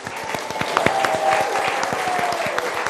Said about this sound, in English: Give them a little clap.